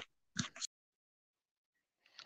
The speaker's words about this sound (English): Sounds, I think he accidentally knocked his phone off there.